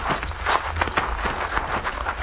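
Horses, including one called Diablo, are led up, their hooves clip-clopping at a steady walking pace, a string of moderately loud hoofbeats over low background rumble, with no talking.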